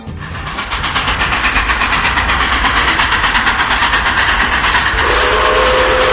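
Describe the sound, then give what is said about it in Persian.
A train approaches along a railway on a dark night with a steady, rhythmic clickety-clack of wheels, growing louder at first, and near the end a sustained train whistle sounds over the noise. “چند لحظه بعد صدای سوت قطاری اومد.”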